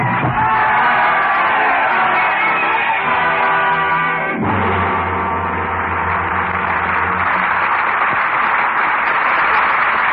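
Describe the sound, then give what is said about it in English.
A large crowd in Paris roars and shouts continuously, a dense wall of many voices bellowing and whooping together, loud and sustained throughout with a brief surge midway. “Our curtain on the roaring crowds of Paris and the sacrificial destiny of Sidney Carton”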